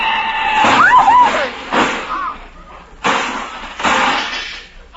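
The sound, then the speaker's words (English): A loud car crash involving a big black touring car: a brief squealing whine, then several heavy crunching impacts in quick succession, with clattering, shattering glass and debris spilling between the bangs, the car's fenders knocked off into the gutter. “My fenders, my shining fenders lying in the gutter.”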